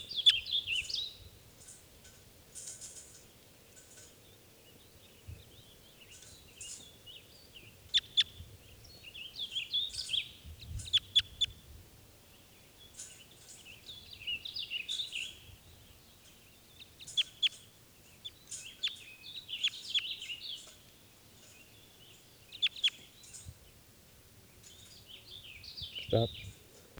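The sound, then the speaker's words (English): Wild birds call and chirp repeatedly in bright, high-pitched bursts over a low, steady rumble, with clusters of tweets coming and going throughout; other birds have taken off, leaving a single lone male. “Other birds have taken off, and there's a single lone male here.”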